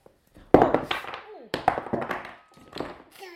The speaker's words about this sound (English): You banged that on your head. Are you okay?